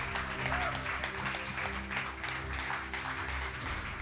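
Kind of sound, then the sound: crowd, audience applause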